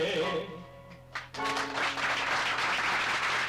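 A sustained musical note trails off, then a crowd breaks into dense, steady applause that carries on loudly for the remaining couple of seconds.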